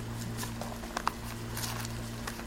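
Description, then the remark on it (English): Pages of a Bible being flipped to find Psalm chapter 2, in a run of soft, quick papery rustles with a couple of sharper flicks, over a steady low electrical hum and no talking. “Let me turn there real quick, because I like that verse.”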